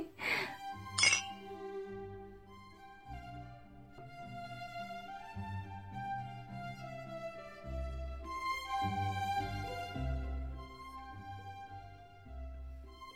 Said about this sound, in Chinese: 我们干一杯。干杯啊，不是，干杯。